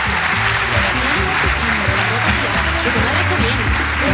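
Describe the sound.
A crowd claps loudly and steadily for several seconds for two guests at the end of an interview on the radio programme Herrera en COPE, a dense, even wash of applause with a voice faintly audible underneath.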